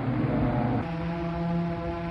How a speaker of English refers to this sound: In early 1983, air raid sirens like these weren't an uncommon sound in West Germany. I used to hear them regularly at breakfast time in the sleepy university town where I was a student.